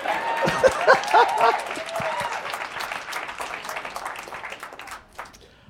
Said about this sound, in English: So technically, I got my high school diploma twice. Thank y'all for clapping for my mama.